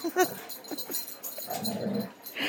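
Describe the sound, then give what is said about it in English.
Dogs whimpering and yipping in short, excited bursts during rough play, high squeaky cries overlapping with snuffly breaths. “Well, folks, the dogs are at it again.”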